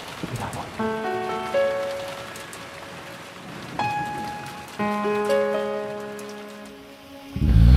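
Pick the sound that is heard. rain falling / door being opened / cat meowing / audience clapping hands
rain falling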